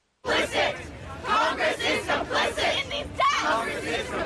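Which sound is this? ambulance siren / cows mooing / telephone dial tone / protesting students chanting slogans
protesting students chanting slogans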